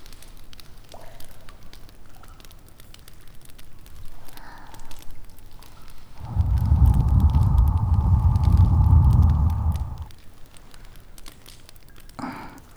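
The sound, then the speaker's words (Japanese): A bonfire crackles steadily underground with scattered small pops and snaps, while a louder, deeper rumbling roar swells through the middle stretch before fading back to quiet crackling. “焚き火あっても地下の気温は寒いですからね。”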